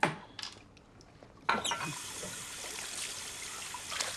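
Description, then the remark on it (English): A few sharp, rattling clicks of pills shaken from a plastic bottle into a woman's hand, followed by a steady wash of running water that continues to the end. “Lou shakes some pills into Golda's hand, and she swallows them down with more water.”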